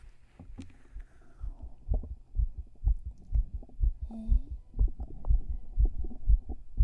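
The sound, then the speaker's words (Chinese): A fast heartbeat heard through the chest with an ear pressed against it, with muffled, steady low thumps coming in quick succession, about two per second, against a soft rumbling background. “哎，你怎么心跳的这么快？”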